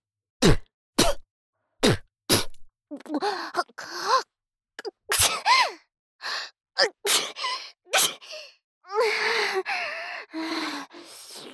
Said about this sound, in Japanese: 私も薬飲んでないから、あくしゃみ出そう。鼻やば。